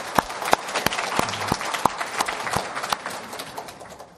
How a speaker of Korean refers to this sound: 우리 그분들 위해서 박수 한번 쳐드리십시오.